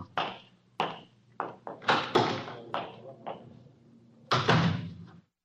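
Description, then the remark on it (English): A rapid, irregular series of sharp door bangs and thuds, close and fairly loud, with a heavier slam near the end that rings out briefly before stopping. No one speaks. “There is the Mike Estella signature door slam break right there.”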